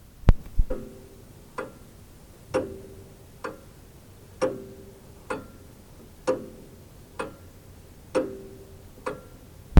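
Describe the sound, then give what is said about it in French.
A deathwatch beetle inside a wall at the head of a bed ticks steadily like a clock, roughly once a second, each sharp click leaving a brief hollow ring. It is fairly quiet, with no voices. “Tom entendit le tic-tac sinistre d'un Death Watch”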